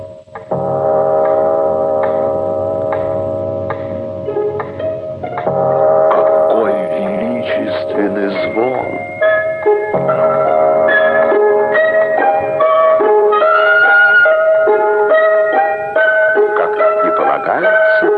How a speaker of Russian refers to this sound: Слышите? Это бьют часы в доме мистера Домби.